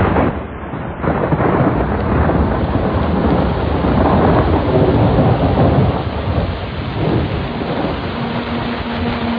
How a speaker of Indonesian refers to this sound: Astaga, hujannya gede banget sih. Tenda kami kini mulai condong karena tidak kuat menahan air yang turun dari gunung.